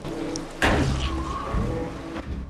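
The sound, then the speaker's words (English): A head knocks hard against an open metal sluice gate inside a dark pipe, a single loud thud with a brief ringing resonance, followed later by a lighter knock over steady background rumble. “He bangs his head on an open sluice gate.”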